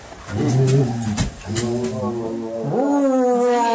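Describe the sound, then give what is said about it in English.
A person growls and snarls in a low, rough voice like an enraged beast, with a long, rising roar near the end, loud, no words spoken. “I know you understand me. When I growl.”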